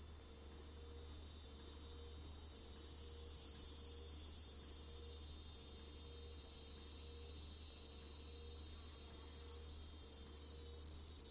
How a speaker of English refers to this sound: Now is the time when we start to hear cicadas singing in the trees. If you want to be reminded what a cicada sounds like, here's the sound.